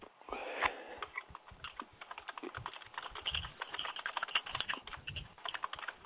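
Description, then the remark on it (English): Fast, forceful rage typing on a computer keyboard, a dense and steady stream of key clatter that runs unbroken for several seconds with no voices. “rage typing?”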